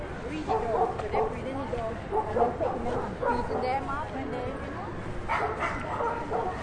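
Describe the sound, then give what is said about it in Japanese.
Several dogs bark and yip in repeated bursts outdoors at a dog run, with muffled human voices and general ambient noise underneath. “この辺ドッグランです。犬がいる。”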